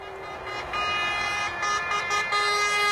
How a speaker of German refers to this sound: Hubkonzert auf der Autobahn Richtung Norden. Ein Konvoi polnischer Feuerwehrfahrzeuge wird von Schweden herzlich und lautstark begrüßt.